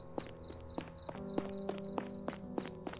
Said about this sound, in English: Is someone following me? Why am I hearing another set of footsteps? No one's there. But it's hard to tell because the street lamps on this street don't work.